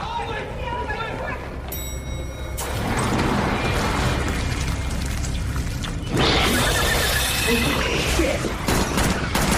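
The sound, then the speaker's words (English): A loud, dense fusillade of gunshots crackles in rapid bursts, surging in intensity partway through, with voices faintly mixed beneath the barrage. “Those are gunshots.”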